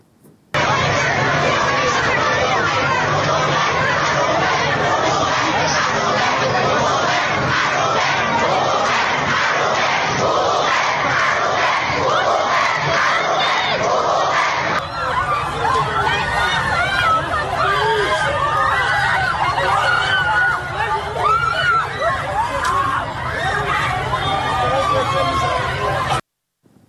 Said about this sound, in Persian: اما گروهی از حامیان حیوانات این هفته در تهران دست به تجمع اعتراضی زدن که تصاویری از اون رو با هم میبینیم.